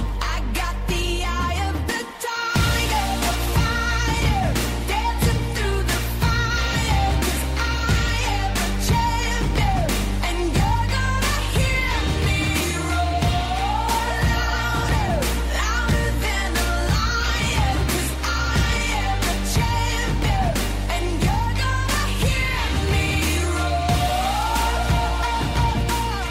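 An upbeat pop song plays at full volume: a sung lead vocal over thumping drums, bass and layered synths, holding a steady driving beat after a brief dropout near the start.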